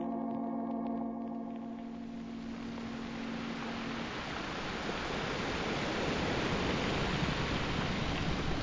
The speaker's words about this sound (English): Listen to the sound of the sea. The sound of the sea, the surf, the ceaseless, measured sound of the sea.